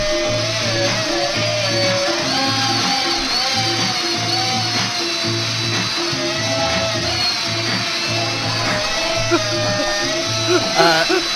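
A home DIY power drill in an instructional video whirs and buzzes steadily for about eleven seconds, its motor whine wavering slightly in pitch, layered over a repetitive pulsing bass beat.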